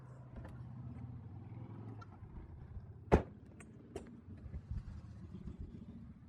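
Engines of many motorcycles passing outside drone and rumble low and steady throughout, rising and falling slightly, with one sharp loud thump around the middle and a few softer knocks after it. No one speaks.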